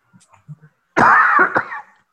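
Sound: allergy cough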